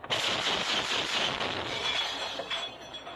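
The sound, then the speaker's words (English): A mounted machine gun fires at an Iranian-designed Shahed drone in one long, sustained burst, a loud and harsh rattling roar that starts abruptly and continues steadily for about three seconds with no voices. “In this clip, the crew is using the mounted machine gun to shoot down an Iranian-designed Shahed drone, which looks like a small plane and sounds like a giant lawnmower.”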